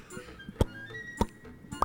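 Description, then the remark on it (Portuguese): A voice imitates a tree frog's hammering call with three sharp, knocking pops spaced roughly half a second apart, fairly loud, with a few fainter clicks between them. “Mas tá martelando.”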